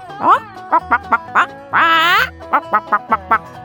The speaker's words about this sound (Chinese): 这里有一只母鸡耶，它在咕咕叫。